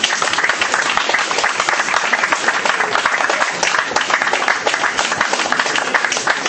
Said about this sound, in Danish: Ja, og så giver vi dem en rigtig lang klapsalve. Tak for jeres indsats. Ja, vi klapper af den.